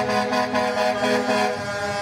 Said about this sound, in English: In convoys honking as they drive past the Kamloops School.